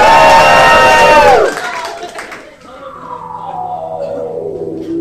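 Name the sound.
audience cheering and shouting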